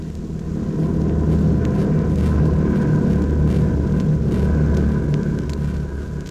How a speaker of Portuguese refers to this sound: Depois começa a atormentar-nos os ouvidos o ruído dos aviões inimigos, coisa tão antipática como o zumbido de um mosquito quando transforma o nosso travesseiro em base de operações noturnas.